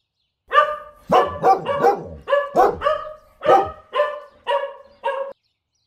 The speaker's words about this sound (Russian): Похоже, наши собаки вместе играют.